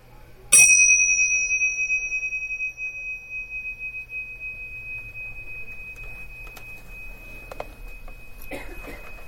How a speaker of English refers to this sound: And when I ring the bell, we can end the meditation.